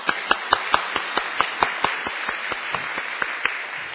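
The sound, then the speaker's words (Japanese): An audience applauds for about four seconds to welcome a guest pastor onto the stage, sharp claps landing in a quick, fairly even rhythm over a steady wash of clapping that eases slightly toward the end. No one speaks. “まずはどうぞ壇の上に拍手を持ってお迎えいたしましょう。”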